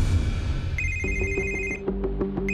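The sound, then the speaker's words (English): A telephone rings at 3 o'clock in the morning with a sustained high electronic tone joined by a rapid, warbling lower trill, repeating in quick pulses over a low rumbling background, clear. “At 3 o'clock in the morning, I got a phone call”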